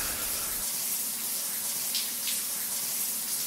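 Steady, hissing rush of water running continuously from a shower, fairly loud, with a couple of brief splashy spikes and no voices.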